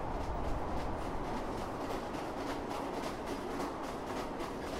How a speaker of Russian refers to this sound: Узнав достаточно об исчезнувшем поселке Казас, мы отправились из Междуреченска на электричке дальше на восток, к границе Кемеровской области и Хакасии.